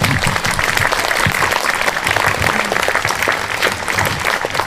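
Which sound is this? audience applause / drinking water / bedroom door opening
audience applause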